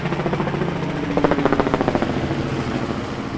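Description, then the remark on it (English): Loud, steady helicopter rotor noise with a rapid rhythmic chop pulsing through a low engine drone, sustained throughout, no voices, as helicopters come and go at Campo de Marte Airport in Sao Paulo's North Zone, Brazil, during the year-end season. “The sound of propellers constantly in motion is almost deafening as air traffic has picked up here during the year-end season.”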